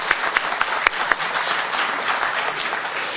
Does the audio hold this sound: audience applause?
yes